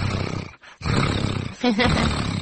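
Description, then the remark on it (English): A person imitates a contented cat with a rough, rumbling, growly sound in two loud, sustained stretches broken by a short breath, a brief voiced tone surfacing midway through the second. “I know when a cat is happy, it does this.”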